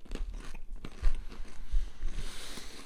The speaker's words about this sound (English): I think I'd like the pretzel the least. Oh, that lovely crunch.